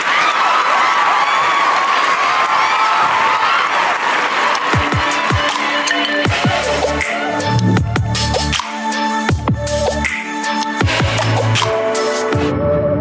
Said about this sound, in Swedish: Applåder.